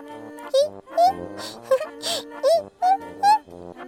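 A baby babbles in a string of short, sing-song vocal bursts with rising and falling pitch, close and fairly loud, over a steady soft tonal background.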